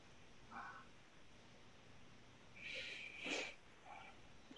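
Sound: dog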